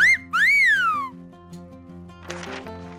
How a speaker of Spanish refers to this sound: Espero el silbido del jefe de estación.